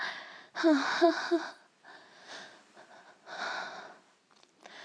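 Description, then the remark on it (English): Heavy, ragged breathing right up against a microphone: a series of loud, noisy breaths, the first one catching into a voiced gasp, followed by several slower, softer exhales and inhales. “Oh, I've been breathing really heavily into this microphone the whole time.”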